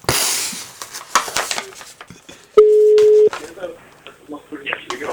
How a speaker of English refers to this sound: We're calling him now on his cell phone.